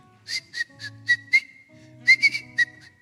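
Someone whistles a short, bouncy melody, the clear tone holding steady and then stepping through a quick run of notes, with a low hum underneath and no talking.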